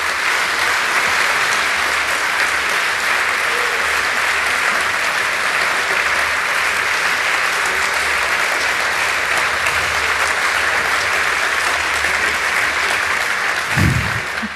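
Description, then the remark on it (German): Sustained applause from a large audience, a dense, steady wash of clapping that stays loud and even for the whole stretch, with no voices standing out. “Ich glaube, das war schon ein recht ordentlicher Applaus.”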